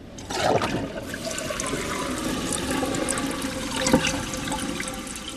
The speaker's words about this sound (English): This new generation of toilets goes from 1.6 gallons per flush to about 1.3 gallons and still meets performance guidelines for producing a clean bowl.